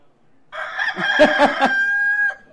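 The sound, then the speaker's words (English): A rooster crows once, loud, a long harmonic call lasting nearly two seconds that rises with a few sharp bursts before holding a steady, fading note. “And Peter remembered the words of the Lord and how he told him, before the rooster crows.”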